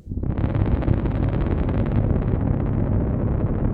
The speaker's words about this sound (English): Get two tubas and have them play two different notes. As loud as they can. It's just this kind of war rumble.